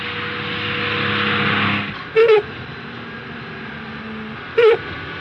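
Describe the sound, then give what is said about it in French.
A car engine runs with a steady rumble, then abruptly dies out as the car runs out of fuel. Two brief coughing sputters follow a couple of seconds apart, with a faint low hum in between. “C'est pas moi, patron, c'est le moteur.”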